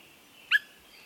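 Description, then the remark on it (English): A single short, liquid bird call, a clear upward "whit" note typical of a Swainson's thrush, sounding once against a quiet background with a faint steady hiss. “When Swainson's thrushes first return to nest in the woods of the West or the northern states in Canada, they announce their presence with subtle calls, limpid whit or wink sounds.”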